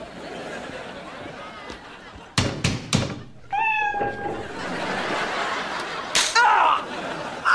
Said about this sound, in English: Sell it and pay somebody to get the cat out of the wall? The cat's not still on the wall.